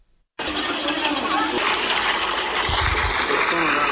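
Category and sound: machine, water gushing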